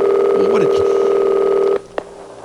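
A telephone being dialed to place a call: steady electronic tones hum for a moment with faint chatter beneath, then cut off abruptly, followed by a single sharp click.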